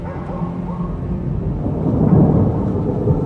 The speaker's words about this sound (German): Ein Sturm zieht über die Stadt und heult durch die schmalen Luken der Königsfestung.